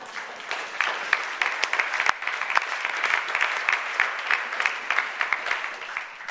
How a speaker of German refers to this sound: Deshalb verdient ihr unseren Dank. Wir haben schon geklatscht, aber ihr dürft gerne nochmal klatschen.